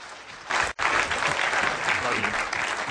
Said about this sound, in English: I paid about 10 of you to cheer, and that kind of got it rolling. for the others. I appreciate that.